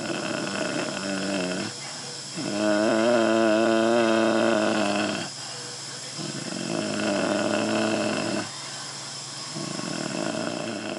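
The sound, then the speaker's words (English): A man with a brain injury and a tracheostomy tube in his throat, in a nursing home, makes deep, raspy humming sounds in several long bursts, the longest with a wavering pitch, separated by breathy, hissing pauses. It is fairly loud, with no clear words spoken. “He's making a deep humming sound.”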